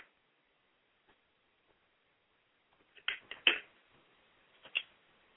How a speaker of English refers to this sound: Excuse me, I'm going to take another sip of water.